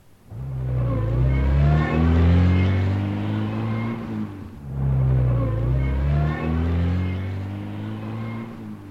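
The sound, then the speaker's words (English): A car engine revs loudly as the car speeds up, its pitch climbing as it accelerates, drops briefly, then surges and climbs again in a second strong push. “When Mary speeded up, that is, drove faster and faster, it speeded up too.”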